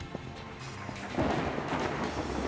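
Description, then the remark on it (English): A low, steady rumble of thunder in Costa Rica, under a sky that is not even cloudy. It swells partway through into a louder, broader roll and keeps rumbling to the end, with no voices. “Thunder. And it's not even cloudy.”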